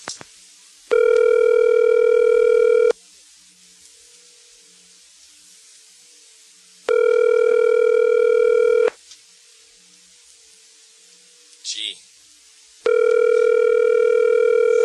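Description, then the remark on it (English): A telephone rings three times over the line, each steady two-second electronic burst separated by long silent gaps, with a brief click between the second and third rings and nobody picking up. “They're smart. They don't want to answer the phone.”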